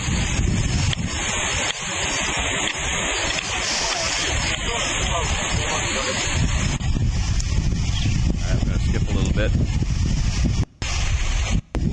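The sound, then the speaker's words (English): Loud, continuous rushing flash-flood water roars with heavy turbulent churning as it comes down after a thunderstorm up on the bluffs, mixed with gusty wind buffeting the microphone; a voice speaks briefly over the torrent. “The water's coming down. There's been a thunderstorm somewhere up on the bluffs.”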